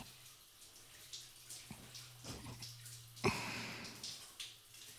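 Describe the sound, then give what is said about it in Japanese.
Shower water runs in a steady, hissing spray with uneven splashes, one sharp knock partway through, and a faint low hum underneath; no one speaks. “シャワー止めよっか。”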